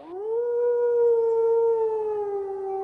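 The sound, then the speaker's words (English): A single red wolf howls in one long, sustained note that rises briefly at the start, then holds steady and slowly falls, clear with no talking. “Red wolves can be heard and in some rare instances seen in southeastern North Carolina.”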